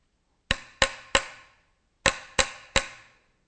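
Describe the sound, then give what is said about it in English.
Hammer blows strike a wooden church door in two bursts of three, the sounds of Martin Luther hammering his 95 theses to the church door in Wittenberg; each knock sharp and loud with a short ringing decay, a brief pause between the sets. “Those were the sounds as Martin Luther hammered his 95 theses to the church door in Wittenberg.”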